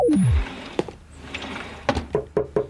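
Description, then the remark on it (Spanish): A short falling tone gives way to a homicide police detective knocking on the door of hotel room 14: a single rap, a pause, then a quick series of four or five firm knocks, with no talking. “Rápido, esconde la caja y abre la puerta.”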